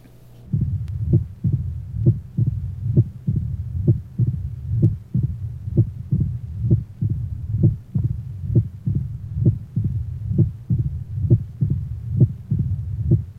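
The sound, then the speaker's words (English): A fast, steady heartbeat recorded through a stethoscope at the mitral area of a 46-year-old man with marked dyspnea and cough, on digitalis: low, dull thumps roughly twice a second, repeating evenly throughout over a continuous low rumble, with no voices. “Case 8, male, age 46, marked dyspnea, cough, and on digitalis, mitral area.”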